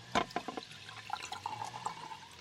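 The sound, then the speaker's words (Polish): More water is poured into a glass, starting with a few splashy clinks and then settling into a steady trickle. It is fairly soft, with no talking. “Chcesz wody jeszcze?”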